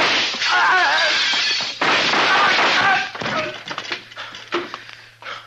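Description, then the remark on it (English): Loud gunshots in a shootout, several sharp blasts fired in quick succession with crashing echoes, voices shouting beneath them, the volley thinning to a few scattered shots at the end. “Just shoot him and get out of here.”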